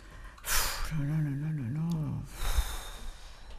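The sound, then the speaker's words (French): A garage mechanic looking over a broken-down car puffs out air in a sharp breathy blow, lets out a low, wavering voiced sigh, then blows out another long, airy breath. “Il souffle.”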